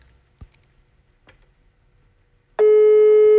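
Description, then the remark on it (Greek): A few faint clicks and taps as a phone call is placed, then a loud, steady telephone ringing tone cuts in abruptly and holds unbroken until the end, with no talking. “Θα πάρω, ρε, τηλέφωνο, ρε. Θα πάρω τηλέφωνο.”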